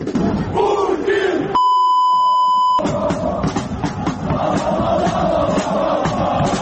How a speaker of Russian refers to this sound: Поддержал украинских солдат, когда те исполнили известную кричалку про Путина на репетиции военного парада.